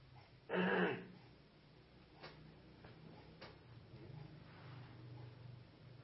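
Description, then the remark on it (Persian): A single loud, harsh throat clearing bursts out near the start as someone has a coughing fit, followed by faint ticking clicks and a low steady hum in otherwise quiet surroundings. “نه من صرفم میگیره نبادم اشتراف کنم نه نه نه الان آروم میشم.”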